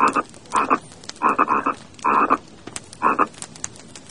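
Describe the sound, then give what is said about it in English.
Frogs croak in a series of five loud bursts, each a throaty, rattling call, separated by short pauses with no talking. “The witches turned into frogs.”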